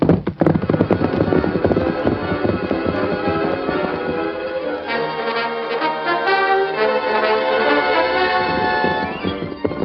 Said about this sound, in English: The Lone Ranger urged his great horse on and on. At length, fording Lazy River, he stopped at a small square cabin.